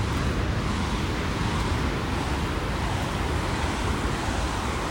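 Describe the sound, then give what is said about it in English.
A continuous, full roar of African Ocean surf washing onto a beach, steady with no distinct pauses, mixed with a rush of wind and no voices. “Not putting my feet in until we get there, but I am at the beach, at the water now.”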